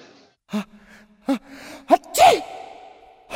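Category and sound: human body sound, repeated sneezing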